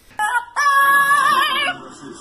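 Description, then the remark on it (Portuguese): A parrot's loud, clear whistled vocalization, a short note followed by a long sustained tuneful phrase with wavering pitch, with no talking. “É um papagaio. Que isso, piano, pô? Esse papagaio tá mandando muito, tá?”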